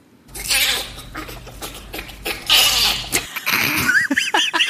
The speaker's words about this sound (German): Okay, dann starten wir mit dem Bonobo. Ja, die mag ich nicht so. Ein Bonobo lacht so.